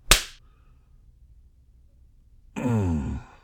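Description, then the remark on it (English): A single sharp, loud spanking slap on a bare bottom cracks out, then silence, followed about two seconds later by a drawn-out voiced whimper or sigh that falls in pitch. “You wanted to know why I'm spanking you?”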